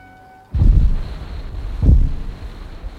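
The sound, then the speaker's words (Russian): Two deep, muffled knocks from a small vessel on the horizon, about a second and a half apart, over a constant low underwater rumble picked up by a submarine's hydrophone at periscope depth. No voices. “Слышу в гидрофон странный стук. Прекратился. Снова стук. Я знаю. Это стучит судно, которое вы видите.”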